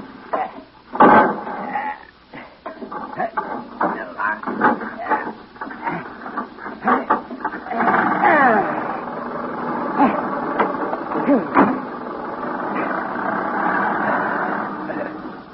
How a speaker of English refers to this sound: I'll take you in my motor car. Oh, now. You will go slowly, won't you? Oh, very slowly. Now, you get in. I'll crank the engine.